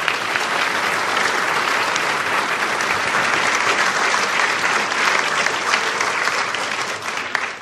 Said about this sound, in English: So please, a round of applause, big one, Christopher Booker.